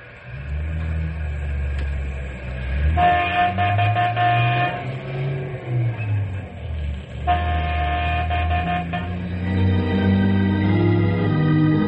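A train rumbles steadily along the tracks, a low continuous roar, while two long, loud horn blasts sound over it, one early and one later, with no voices.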